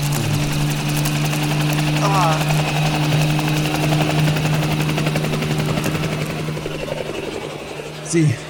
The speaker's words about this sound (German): Sie haben den Hubschrauber erreicht! Und sie fliegen weg.